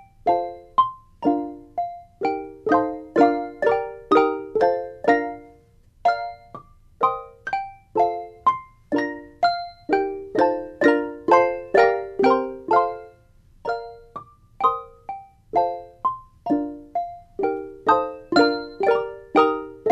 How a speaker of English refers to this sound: but we can use mallets to hit, I mean, just like percussionists do, because handbells are actually a percussion instrument. So we'll use mallets in a section of a different piece.